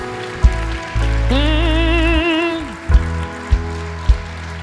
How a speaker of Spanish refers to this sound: Y dele un aplauso fuerte al Rey. ¿Por qué no? ¿Por qué no?